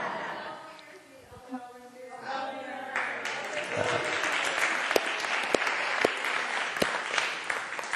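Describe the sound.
An audience breaks into sustained applause, dense clapping swelling after a few seconds and holding steady and loud, with some faint voices and laughter underneath at the start.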